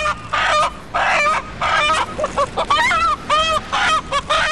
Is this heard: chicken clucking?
yes